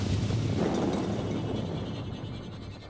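A Hellfire missile's explosion as it comes down at the neighbours', a heavy, low rumbling roar, loud from the start and crackling throughout, then slowly fading over about three seconds with no voices.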